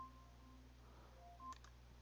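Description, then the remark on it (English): An Alexa smart speaker alarm sounds, a quiet electronic beeping made of steady tones that step between a few pitches, with a short click partway through and no voices. “I'm hearing a weird beeping noise.”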